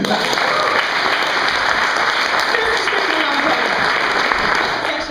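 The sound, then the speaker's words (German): An audience at a Schmidts Katzen improv theatre evening claps steadily, a dense, continuous wash of applause that holds its loudness for several seconds before easing slightly at the end. “Die Männer haben heimlich zu Hause trainiert. Applaus.”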